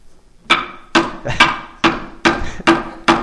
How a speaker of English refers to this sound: How about with a hammer? That might work a little better. There we go. That pounded it right home.